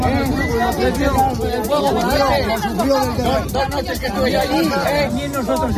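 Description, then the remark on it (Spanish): A crowd of residents in Zamora, Spain, booing the Spanish prime minister on his visit to the wildfire area, many overlapping voices jeering and shouting at once in a loud, continuous hubbub that never lets up. “Allí algunos vecinos le han recibido entre abucheos.”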